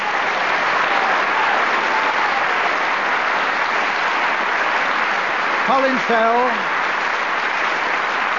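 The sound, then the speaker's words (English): Steady, dense audience applause for the teams at the end of a series fills the whole stretch, a loud even wash of clapping; a man briefly speaks over it near the end. “So, for the end of this series, would you all give a big round of applause for the teams?”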